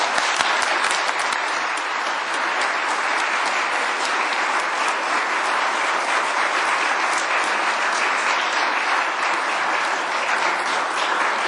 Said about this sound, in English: Let us welcome these sisters and brothers in Christ to this community of faith with a round of applause.